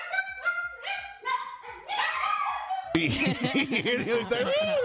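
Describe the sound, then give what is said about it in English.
Two small dogs, about 8 and 20 pounds, howling: a run of short, repeated yelping cries first, then a steady, wavering high-pitched howl with several voices overlapping, one that cannot really howl sounding strained and scream-like. “And one of them can't actually howl, but he's like taught himself to do it because he gets so jealous that his dog brother does it.”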